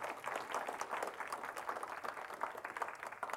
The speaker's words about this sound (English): Amen. Give the Lord a hand clap this morning, if you would.